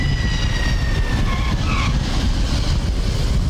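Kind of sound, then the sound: vehicle, airplane landing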